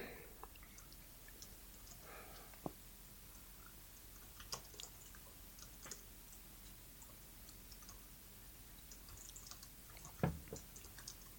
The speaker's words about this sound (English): You're just typing